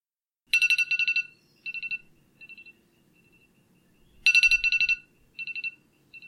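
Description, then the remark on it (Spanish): An alarm clock, left set by mistake, rings on a Saturday morning in two bursts of rapid electronic beeping, each a loud cluster trailing into shorter, fainter beep groups, with a pause between them; no voices. “Es un sábado por la mañana y suena el despertador porque se te olvidó quitarlo.”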